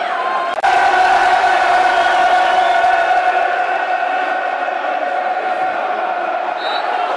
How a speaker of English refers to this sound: Bit of fire in the belly now, the crowd want it. As you can hear, a good tackle is all it needs often to get this crowd going.